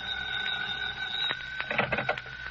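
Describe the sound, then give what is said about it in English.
A telephone bell rings steadily in a room, a bright, sustained metallic trill at a high pitch, with a few soft knocks and rustles overlapping it toward the end. “When I got there, the phone was ringing.”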